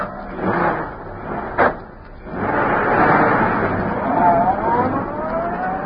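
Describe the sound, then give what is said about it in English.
A car door thuds shut, then an engine swells up loud as Bleecker's car pulls away, swinging into the street and turning toward Schaefer's parking lot, its motor note rising and whining under a steady rush of noise. “As Bleecker's car swung into the street and turned toward Schaefer's parking lot, a huge, sleek black car started along behind them.”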